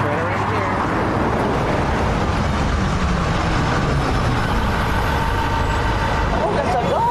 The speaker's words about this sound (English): The bus is coming.